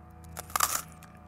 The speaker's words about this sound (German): Kekse verursachen laute Knuspergeräusche.